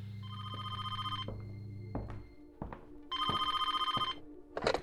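A telephone rings at the Bevis Funeral Home with a call for an ambulance, in two bursts, each a rapid, trilling electronic bell held for about a second with a short gap between, over a low steady hum and some brief clicks.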